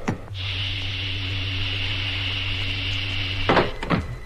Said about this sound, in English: Filling airlock. Now opening cabin hatch.